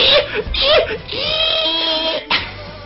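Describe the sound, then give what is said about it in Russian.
A human voice mimics a pig's orgasm on a radio show: choppy squealing grunts, then one long, wavering, high-pitched moan, cut off by a brief final squeal. “Оргазм свиньи. И длится 40 минут. Да. В течение всего эфира ты будешь делать так.”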